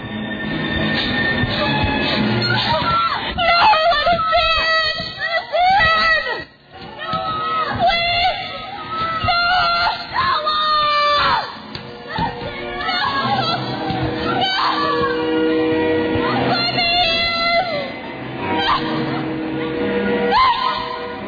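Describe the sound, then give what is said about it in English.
A crowd of voices screams and shouts together, loud and continuous, with frantic overlapping cries rising and falling for about twenty seconds, portraying the people in Noah's day screaming. “We see the people in Noah's day as they begin to scream.”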